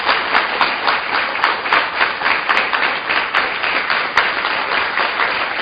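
A crowd applauds a group of sisters, many hands clapping in a dense, continuous patter with slight swells in loudness throughout, and no voices over it.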